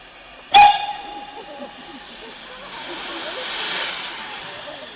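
A steam train lets out a sharp, loud whistle blast, followed by a long, broad hiss of escaping steam that swells and fades, with faint voices in the background.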